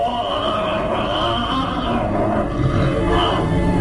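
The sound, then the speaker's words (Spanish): A loud, unbroken moaning roar from behind a door, like an enraged caged beast, rumbles low and rough for several seconds, swelling slightly toward the end with no pauses and no voices. “Solo aquel gemido que parece el grito de furia de una bestia prisionera.”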